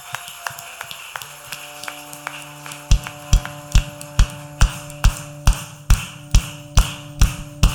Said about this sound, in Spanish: Fuerte con palmas.